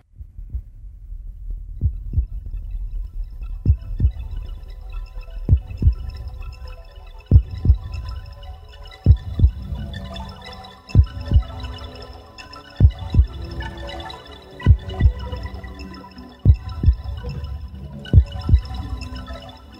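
A deep, continuous earthquake rumble with heavy thuds pounding through it at irregular intervals, growing busier over time, under a faint metallic hum and no voices.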